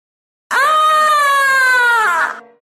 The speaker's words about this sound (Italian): È un urlo lunghissimo di strazio infinito. Non l'ha così chi viene lentamente trapassato da una spada.